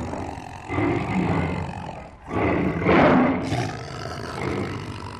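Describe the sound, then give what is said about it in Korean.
A tiger growls and roars while tigers fight, loud throaty bursts rising and falling over several seconds with a brief pause in the middle, and no voices. “세 번째 호랑이가 으르렁거렸어요.”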